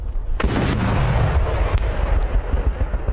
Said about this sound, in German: Das sind so große Böller, die eigentlich nur für Profis zugelassen sind, also dass sie mehr an Bomben erinnern als an Böller. Und die haben in Berlin eben ziemlich krasse Schäden angerichtet und die hören sich so an.